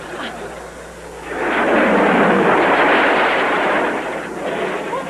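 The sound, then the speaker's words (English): A jet aircraft roars past: a loud, broad rushing roar swells up after a quiet moment, holds for about three seconds, then gradually fades away. “We have a jet?”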